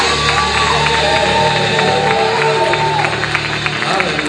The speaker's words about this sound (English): In Jesus' name, if you're expecting God to do great things in your life this year, give Him a shout. Clap your hands and give Him praise. Hallelujah. Come on.